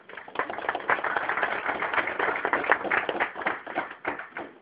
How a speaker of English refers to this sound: And, before we get started, let's give everyone a round of applause in terms of organizing this event today.